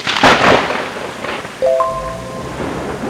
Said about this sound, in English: driving home right in the middle of a thunderstorm